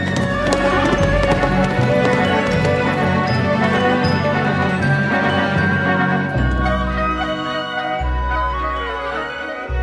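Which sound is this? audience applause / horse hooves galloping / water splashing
horse hooves galloping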